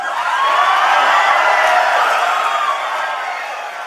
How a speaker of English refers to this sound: Following Marco Rubio's announcement at the Value Voters Summit, the crowd got a little raucous.